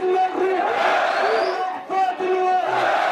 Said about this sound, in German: Die Menge jubelt Abdulbaset Asarut zu. Der junge syrische Fußballnationalspieler wurde 2011 zum Gesicht des Aufstandes gegen Diktator Assad.